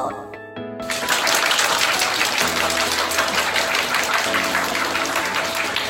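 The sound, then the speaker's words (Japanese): An audience at a public recording of a radio show breaks into sustained applause, a dense wash of clapping that swells after the first second and carries on steadily, with faint music underneath. “拍手ありがとうございます。”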